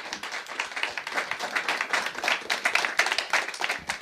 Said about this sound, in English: my big applause for the bands.